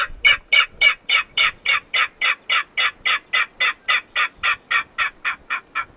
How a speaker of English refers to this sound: Yeah, this is of a king rail, which is pretty rare in the Midwest. This is the king rail call.